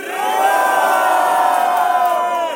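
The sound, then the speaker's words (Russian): A crowd at a crew battle event cheers and shouts for a DJ in a loud, sustained roar, with many voices whooping and yelling together at a steady high intensity for the whole stretch. “Давайте сделаем шуму …!”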